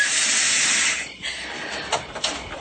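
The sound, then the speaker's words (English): A garbage truck's compactor lever lets out a loud, steady pneumatic hiss for about a second, then fades to a softer hiss broken by a few short puffs of air. “Carol, you are the first girl I've met who doesn't mind going out in a garbage truck.”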